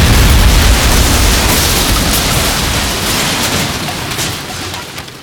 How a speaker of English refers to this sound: Explosion.